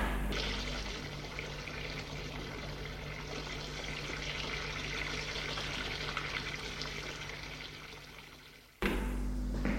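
shower water running

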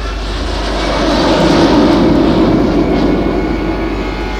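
airplane flying

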